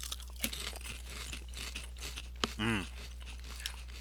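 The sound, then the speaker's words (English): Crisp, crackling crunches from biting into a hard taco shell, followed by steady chewing with scattered sharp snaps, a brief wavering hum of a voice partway through, and a low constant hum underneath. “And I'm going to take another bite to see if it's just in my head, but I feel like maybe they did get some corn shell in there, corn tortilla shell in there.”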